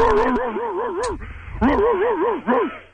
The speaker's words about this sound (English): The dog answers the phone, too. That's even more impressive.